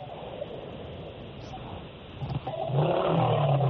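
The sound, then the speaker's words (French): A motorcycle engine, with a caller riding it on the road, rumbles through a narrow, muffled phone line amid steady wind-like noise, then revs louder and higher in the last second or so, droning continuously with no voices. “Moi, j'entends la moto, mais je ne sais pas si Tidiane est encore là.”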